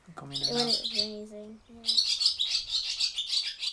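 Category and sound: bird, barn swallows chirping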